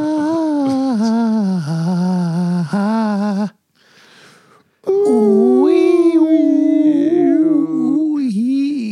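Several dogs howl loudly in long, wavering, overlapping cries, break off for a moment of near silence, then start up again in a frenzied chorus.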